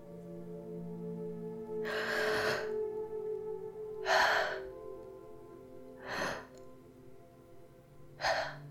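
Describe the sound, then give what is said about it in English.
A non-human voice simulates breathing with four sharp, gasping inhalations spaced about two seconds apart, fairly loud over a steady low background hum. “Ah, do you want me to simulate breathing?”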